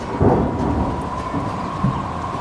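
Steady, dense rain hisses throughout with strong wind while low rolling thunder rumbles swell beneath it, a loud storm with no voices.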